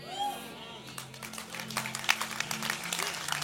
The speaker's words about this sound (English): Because you're going to clap in a minute. You're going to clap when I say this. Because discipleship is by followership.